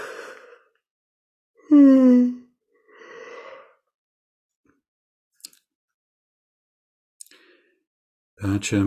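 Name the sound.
yawn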